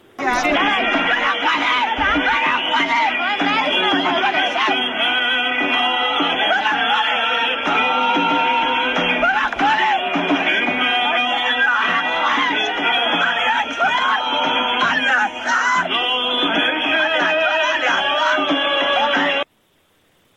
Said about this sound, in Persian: این صدای داد و فریاد، این صدای عزا، این زخم و درد، صدایی که ما این روزها زیاد میشنویم از جاجای ایران.